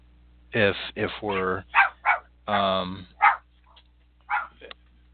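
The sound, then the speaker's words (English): A small female dog yaps during a radio broadcast in a rapid, uneven string of high-pitched barks, some short and sharp, a few drawn out into whiny yelps, fairly loud with brief pauses between them. “If we're looking to, oh God, there's nothing like a dog barking, right? Especially a high-pitched dog.”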